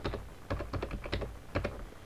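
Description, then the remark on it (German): Rapid keystrokes clatter on a computer keyboard as an admin password is typed after running a command on Fedora Core, a quick uneven burst of about a dozen clicks, with no voices. “Ich gehe auf Anwendung, Software hinzufügen, entfernen oder ich führe den Befehl pyroot aus, gebe das Admin-Passwort ein.”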